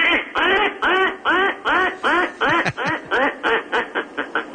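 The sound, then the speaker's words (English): A duck quacks loudly and rapidly, about a dozen harsh, nasal calls in quick succession with brief gaps between them, with no one talking. “That's a duck.”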